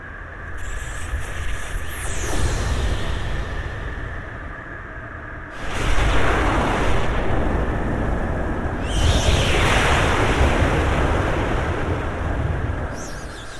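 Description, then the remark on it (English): Retro anime-style weather effects from Moon Echo Audio, inspired by the wind, thunder and rain sounds of 80s and 90s classic anime: a steady hiss of rain and rushing wind, broken by deep rumbling thunder bursts that swell sharply around the middle and again later, with a thin high whine throughout. “Vintage anime sound effects Thunder, Rain, Wind by Moon Echo Audio was inspired by the iconic weather sounds of wind, thunder, and rain used in various 80s and 90s classic anime.”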